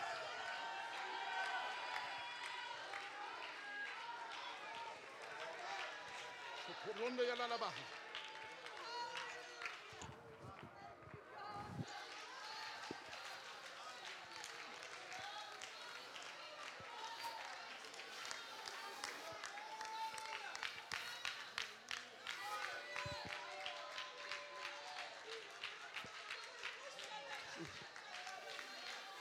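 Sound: audience clapping and shouting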